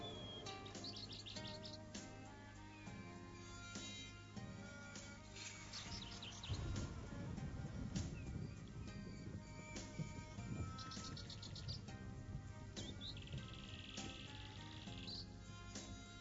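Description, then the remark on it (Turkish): Many birds flying around the Kaaba chirp and tweet continuously in a dense, overlapping chorus, with a steady hiss and low crowd-like murmur underneath, swelling louder around the middle. “Kuşlar ne güzel uçar Kabe'nin etrafında. Ne garip sesler çıkarırlar.”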